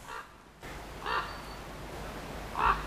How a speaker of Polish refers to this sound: Kruka tam mamy, wiesz. Teraz ja się rozproszyłem, bo kruki to ja lubię.